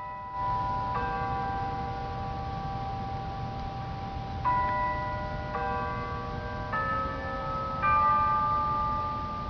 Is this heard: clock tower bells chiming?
yes